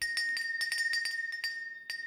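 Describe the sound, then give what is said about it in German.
A shop door bell jingles in a quick, irregular flurry of bright metallic tinkles over a steady high ringing tone, about a dozen strikes in two seconds, with no voices. “Klingeling, machte die Türglocke.”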